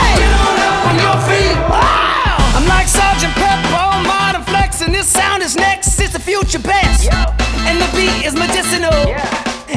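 A dense, loud crowd yells and whoops wildly, many voices overlapping in a sustained roar of cheering that barely lets up for the full stretch.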